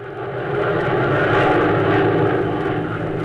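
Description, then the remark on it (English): A steady, droning roar of the propeller engines of a P-61 aircraft in flight, loud and continuous with a low rumbling hum throughout, swelling slightly early on and holding level with no voices. “By means of special electronic equipment on the P-61, Hop is close on what he believes to be the trail of planes of the Nazi Death's Head Squadron.”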